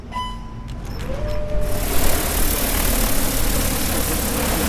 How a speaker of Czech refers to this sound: Nejdřív se zvedá ze země malý průzkumný dron. Tady vidíte, že vlastně provádí se průzkum, a to jak termovizní kamerou, tak i standardní, tedy tou kamerou.